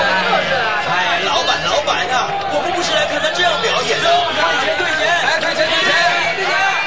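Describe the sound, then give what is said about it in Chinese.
A theater audience jeers and clamors, mocking and shouting at a performer on stage who cannot sing. Many overlapping voices merge into a loud, steady babble of shouting and chatter that holds for the whole stretch without a pause. “就在观众的吵杂声中，焦急的老板和妈妈都不知道该怎么办的时候”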